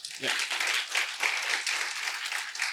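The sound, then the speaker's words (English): Sustained applause from a crowd for the people who did the cleaning and moving, a dense steady wash of many hands clapping at once, fairly loud and continuous, with a brief voice at the very start. “So let me just, if you're here today, give a round of applause to those who that cleaned and moved, okay?”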